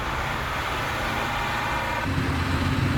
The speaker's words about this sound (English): The Chevrolet is taken away on a tow truck.